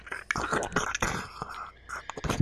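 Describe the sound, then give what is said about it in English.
A voice imitates what a microphone swallowed by a character in a movie would sound like: breathy, wet, whispery mouth noises and garbled bursts with no intelligible words, continuing unevenly for a couple of seconds. “I just wanted to recreate what the microphone would actually sound like if he had swallowed it.”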